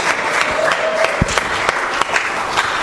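An audience breaks into sustained applause, many hands clapping densely and steadily, filling the whole stretch without pause or speech.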